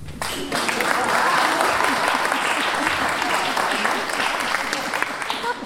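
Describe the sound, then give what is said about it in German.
A crowd breaks into steady, dense applause in answer to a performer asking whether they have sex; it starts abruptly and holds at a loud, even level for several seconds, with scattered voices and whoops mixed into the clapping. “Habt ihr Sex? Mal klatschen.”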